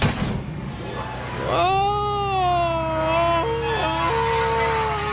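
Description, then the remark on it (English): A man belts out an imitation of a Tarzan yell: one long, loud, sustained wail lasting several seconds, with abrupt yodel-like pitch breaks near the end, over a steady low hum. “That's my Tarzan yell.”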